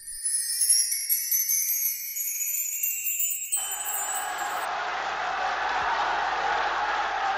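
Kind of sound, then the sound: crowd, prisoners cheering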